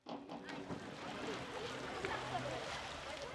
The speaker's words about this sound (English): A local public swimming pool filled with kids diving, pushing, splashing each other in the cool turquoise blue water this hot summer day will soon be empty.